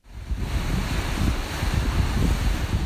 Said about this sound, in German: Kräftig und heiß weht der Wind an Mexikos Karibikküste. Ganz sanft plätschert die karibische Badewanne, aber statt türkisblau ist das Meer hier kaffeebraun.